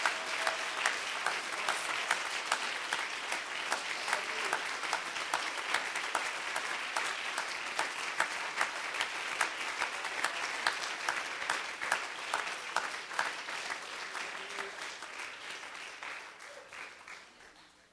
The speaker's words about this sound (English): You should stand and clap for yourselves. You did that.